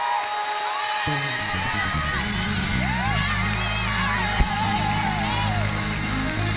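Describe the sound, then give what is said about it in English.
A church audience praising God in worship cheers and shouts in a loud, steady wash of voices, with rising whoops and yells breaking through and one sharp bang partway through; clapping blends into the din. “Come on, clap your hands. Open your mouth and shout.”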